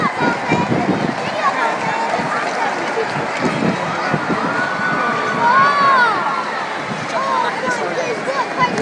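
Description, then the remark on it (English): A dense crowd of spectators murmurs and chatters throughout as buses of athletes arrive, with high children's voices calling and shouting over the steady, lively hubbub. “Well, I'm going to move because the crowd are actually coming up behind it, and I'll get stuck here forever.”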